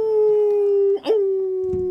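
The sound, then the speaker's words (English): A dog howls in one long, steady, fairly loud note, with a brief wavering break in the middle before the howl carries on. “Different kind of dog, right?”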